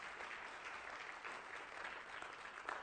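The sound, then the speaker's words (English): An audience claps steadily together after a sermon, giving God a hand clap of praise: dense, continuous applause that holds an even level throughout, a warm wash of many hands. “All right, let's give God another hand clap of praise.”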